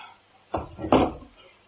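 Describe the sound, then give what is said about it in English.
A door swings shut with two quick, dull wooden thuds, a softer knock followed by a heavier, fuller thump, then quiet. No one speaks. “I close the door.”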